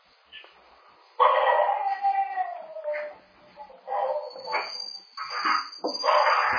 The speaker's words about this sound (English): Is that your pet dog, is it?